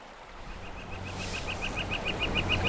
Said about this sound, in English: That's the flicker again, yes. Yeah, that's his territorial call.